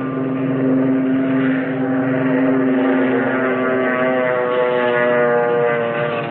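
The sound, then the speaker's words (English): A propeller-driven torpedo bomber's engine drones loudly and steadily, a deep harmonic roar that holds for several seconds with a slight swell, as it takes off from the Japanese aircraft carrier Akagi. No one speaks. “That torpedo bomber is taking off.”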